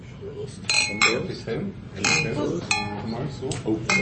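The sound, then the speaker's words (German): Several glasses clink together in a toast at Westbahnstraße 35a on 10 May 2016, a quick series of bright, ringing chinks, with murmuring voices and background chatter underneath. “Und Prost, die Dame, Prost, die Herren.”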